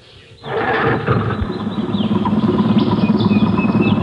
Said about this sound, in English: Start the engine. I want to check on the radiator.